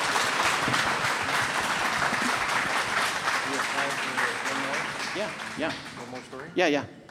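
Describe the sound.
An audience breaks into steady, dense applause for a woman who hosts a show called Which Way From Here. It holds loud for several seconds, then thins out as a few voices and a brief shout rise near the end.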